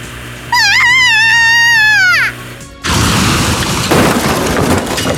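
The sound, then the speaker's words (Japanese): A video game car crash as Sakugawa's car, number 555, flies: a steady electronic whine sags downward in pitch and cuts off, then a loud, noisy crash bursts in and rumbles on for a few seconds. “佐久川さんの車が飛んだ。”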